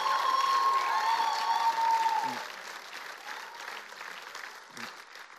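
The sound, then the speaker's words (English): An audience at a sermon claps and cheers loudly, giving the Lord a shout, with a sustained high whistle or shout ringing through the first two seconds before the applause gradually thins and fades. “Come on, if you believe what I'm saying, give the Lord a huge shout in this place.”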